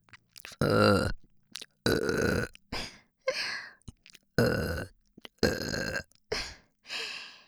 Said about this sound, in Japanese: ねえお兄さん、お兄さんはじっくり溜める一発と連続ゲップのどっちが好きですか？こんな感じの。